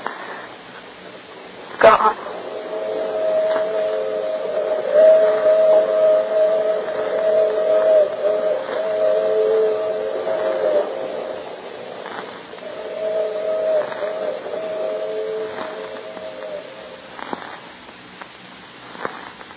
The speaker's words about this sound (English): The train vanishes among its tracks and tunnels